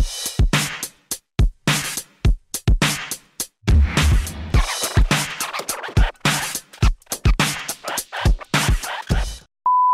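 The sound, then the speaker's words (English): Scratchy rustling and handling noises, like fumbling with an object, then a single short, steady phone notification beep right at the end, clear; the notification is a reminder about a health check. “I just got another notification that I'm supposed to have another health check with my cousin doctor.”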